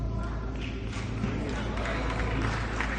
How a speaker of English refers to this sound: That man. See, you hear that small remnant that are clapping, saying, "Yes, we've seen it. We agree with you."